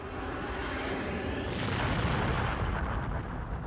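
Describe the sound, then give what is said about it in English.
A deep, rumbling explosion boom of a comet of ice and dust exploding in the atmosphere over Tunguska in 1908 rolls out alone, loud and sustained, with a broad roar that swells midway and slowly fades without any clear end. “The comet would have exploded in the atmosphere, creating a blast big enough to cause the damage in the area, but distant enough not to produce a crater.”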